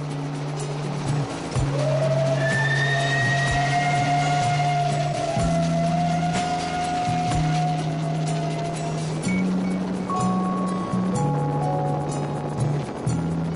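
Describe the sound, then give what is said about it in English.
Interior of a moving train with wooden benches: a steady low mechanical rumble with a long high whine rising and holding, punctuated by occasional clanks and rattles from the rail cars. No one speaks. “I remember these wooden benches and trains when I was a little boy.”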